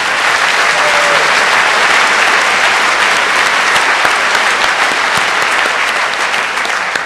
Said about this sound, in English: And one final round of applause for the rest of your NOC team, because there were quite a few people involved and they worked very hard.